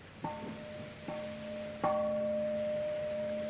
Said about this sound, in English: This is a Japanese Buddhist gong made of bronze and shaped like a bowl.